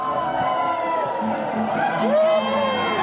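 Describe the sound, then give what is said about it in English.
Hundreds of people at a dawn Eurovision live broadcast party in a hall in Hurstville, Sydney, scream and cheer loudly and continuously as Australia's entrant completes her grand final performance, with excited whoops and high-pitched shrieks rising over a dense wall of voices. “Screams and cheers erupting as Australia's entrant”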